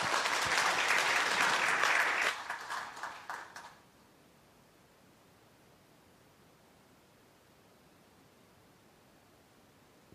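A burst of applause, dense and steady for about two seconds, then thinning into scattered claps that fade out by four seconds, followed by near silence.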